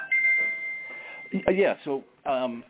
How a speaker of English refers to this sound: I think you just won a prize. Yeah. Yeah, the prize for forgetting to turn my phone off. My apologies.